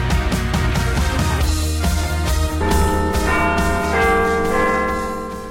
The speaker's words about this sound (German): Dann wünsche ich jetzt viel Spaß im zweiten Teil und es hat schon geklingelt, aber auf die Plätze, oder?